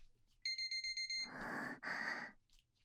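A digital punishment timer alarm beeps rapidly, about six short high-pitched electronic tones in quick succession, followed by two loud, breathy exhalations.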